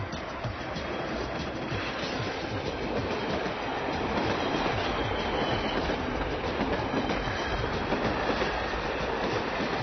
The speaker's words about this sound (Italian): Così di colpo, non me l'aspettavo, non era previsto. Il treno riparte, lui non si ferma.